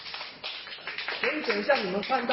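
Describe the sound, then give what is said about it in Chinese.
A burst of audience applause for a speaker from Taiwan presenting on a museum's operations, dense and steady at moderate volume, with a voice starting to talk over the clapping about halfway through. “他的介绍风趣幽默，引来阵阵赞叹和掌声。”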